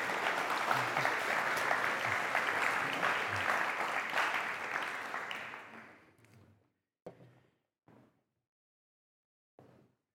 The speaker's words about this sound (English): Now give him a clap. Go on. Thank you.